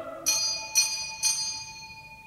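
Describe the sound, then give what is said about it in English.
A bright bell rings three times in quick, even succession to start the opening race at Ascot, each strike leaving a sustained metallic shimmer that overlaps the next, with no voices. “Hark, a bell is ringing, they are screaming, forward look.”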